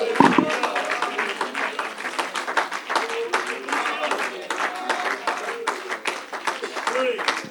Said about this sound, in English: Would you clap your hands unto the Lord before you're seated? Hallelujah, hallelujah, hallelujah.